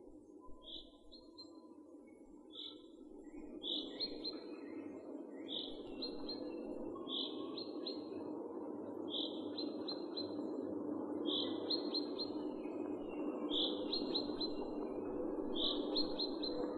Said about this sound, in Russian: Кроме песни, у зяблика есть еще громкий крик. Особенно часто зяблик начинает рюмить перед дождем.